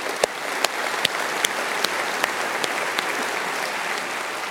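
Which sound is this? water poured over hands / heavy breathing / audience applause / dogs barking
audience applause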